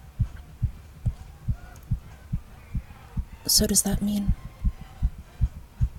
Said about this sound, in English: I can feel it. I can feel your heart beating fast, too.